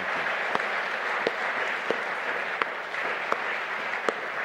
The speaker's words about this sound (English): Folks, let's just say thank you with a big round of applause to all these folks and many more. Thank you.